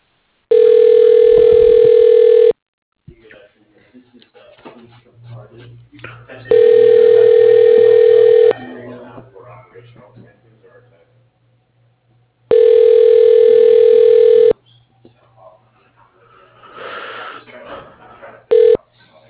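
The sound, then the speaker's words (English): A telephone ringback tone sounds while a phone call is being transferred through a directory, three times in long, loud, steady two-second pulses spaced evenly apart, with faint muffled background noise in the gaps and a fourth ring just starting at the end. “please hold while your call is being transferred to Larry John”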